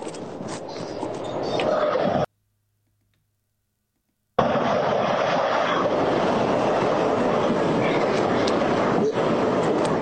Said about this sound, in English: there's a train coming. Let's get it to halt.